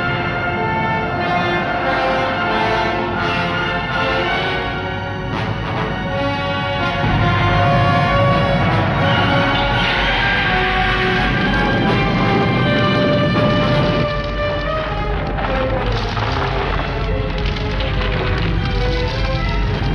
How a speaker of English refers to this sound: And finally, it carries through to the ship crashing through the ceiling.